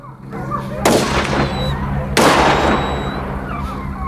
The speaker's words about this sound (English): She-Wolf turns her head at the sound of the shots.